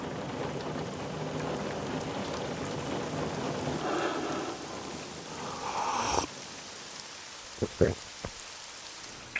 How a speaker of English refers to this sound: Rain. Beating on the streets.